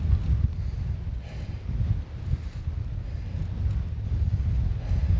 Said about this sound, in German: So angenehm der Ausflug zum Kloster war, so beschwerlich ist der Rückweg gen Osten zum Oderdeich. Der eisige Wind lässt meine Gesichtszüge erstarren. Jeder Tritt in die Pedale ein Kraftakt. Kein Wetter für ungeübte Radfahrer,